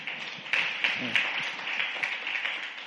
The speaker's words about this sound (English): Give a big hand clap.